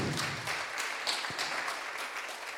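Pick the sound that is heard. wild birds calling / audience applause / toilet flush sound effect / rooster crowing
audience applause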